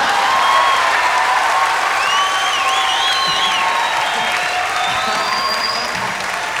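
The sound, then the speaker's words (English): A large crowd at a band's live show claps steadily and loudly for several seconds, a dense wash of applause with high whistles and cheers rising above it, louder than the band, no one speaking. “I can't hear it for you, like, clapping.”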